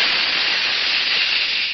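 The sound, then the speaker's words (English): A steady, loud hiss of a pressurized jet of moisture spray, used in an advertisement for the Rolly 903 cigarette, bright and airy, holding constant for under two seconds with no voices. “That jet of fresh, pure moisture stands for the new, all-new Rolly 903 cigarette.”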